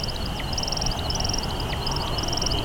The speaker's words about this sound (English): Up and up he goes, spiraling hundreds of feet up into the air. And then at the apex of his flight, he starts to chirp.